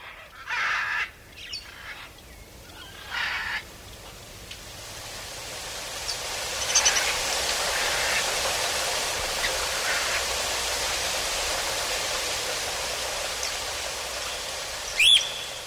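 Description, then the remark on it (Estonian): Dense rainforest ambience with a steady hiss of insects and foliage, several birds calling in short bursts, including a couple of harsh caws near the start and a sharp chirp near the end. “Mõne mehe tee võib aga viia sootuks eksootilisse, vihmametsa.”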